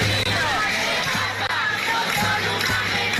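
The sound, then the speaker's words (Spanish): A dense outdoor crowd of hundreds of protesters in Tenerife, Canary Islands, roars continuously in a morning march against the genocide in Gaza, many voices chanting slogans together in a loud, sustained mass, with a steady low hum beneath and no clear pauses. “Centenares de tinerfeños salieron a la calle para mostrar esta mañana su rechazo al genocidio en Gaza con consignas como esta.”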